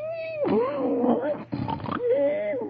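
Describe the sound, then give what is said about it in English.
A voice imitates the loud snoring of Brer Buzzard lying unconscious after flying into a tree: a wavering, hummed tone breaks into rough, rattling rasps, then returns to a droning whistle-like hum, all within about three seconds. “And there he lays with a different kind of snore.”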